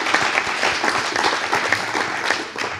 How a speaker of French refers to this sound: On peut effectivement applaudir Daniel pour ça.